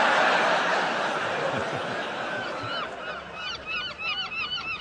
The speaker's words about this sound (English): Ah, seagulls. What memories of our visit to Torquay they conjure up. In fact, seagulls comprise the only memory I have of our visit to Torquay.